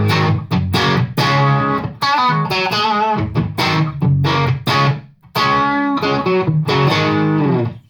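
Distorted electric guitar through an amp with the bass EQ turned up fully, playing loud chugging chords and short riffs with brief pauses, thick but not boomy low end.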